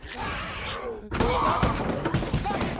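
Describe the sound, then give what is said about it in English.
An apartment door slams shut about a second in, one sudden heavy thud breaking a brief lull, followed by busy, noisy commotion that carries on to the end. “Angela closes the door on Walensky.”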